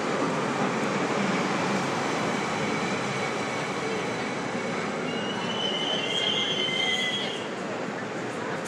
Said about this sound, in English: I'm going to take you with me while we ride on the train. That's always fun. Hearing the train sounds. Hearing the ambiance.